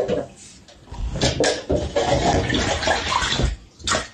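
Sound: brown water running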